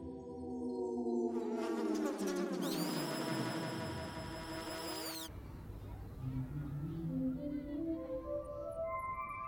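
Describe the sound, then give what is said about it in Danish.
A bee buzzes loudly around a flower, its droning hum sliding steadily lower in pitch, then continues as a softer, wavering buzz with shifting tones until the end. “Det er ligesom bien og blomsten leger sammen.”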